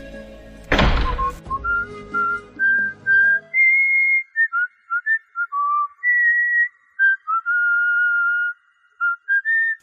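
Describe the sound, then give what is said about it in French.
A dull thunk near the start, then a man casually whistles a wandering tune as he walks out, with clear, steady notes rising and falling in short phrases, fairly loud, with no talking. “Et je sortis en sifflotant.”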